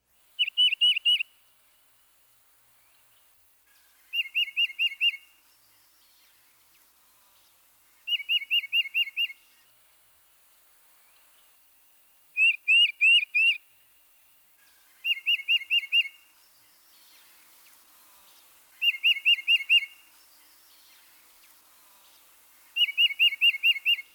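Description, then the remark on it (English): A titmouse sings its song of clear, repeated two-note whistled phrases in short bursts, about every three to four seconds, loud against a quiet background with no talking. “At other times, the song is a distinctive two-noted whistle, which we can represent as chiva, chiva, chiva.”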